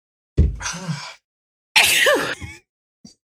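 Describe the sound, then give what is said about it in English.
A woman sneezes in two noisy, voiced bursts: a rough, throaty first blast, then a sharper, higher outburst with a strained vocal edge, followed by a tiny faint sound. “Anyone else want to sanitize her up after that sneeze?”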